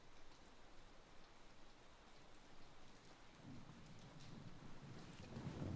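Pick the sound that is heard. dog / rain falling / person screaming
rain falling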